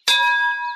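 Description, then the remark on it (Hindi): A single bright bell strike with a sharp attack, its clear ringing tone sustaining and slowly fading. Close and fairly loud, with no voices. “Bell bell bell bell bell यानी घंटी।”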